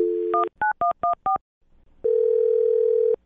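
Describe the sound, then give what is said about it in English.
A woman's phone number is dialed to call her again: a steady dial tone, then a quick series of touch-tone beeps, a brief pause, and a long steady call tone that rings on for about a second. No one speaks. “I'll dial her phone number and try one more time, okay?”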